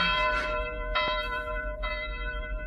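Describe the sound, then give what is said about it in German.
Church bells ring out with a rich, layered tone, fresh strikes arriving about once a second over a long humming resonance that never fades between them. “Ach ja, die Glocken läuten.”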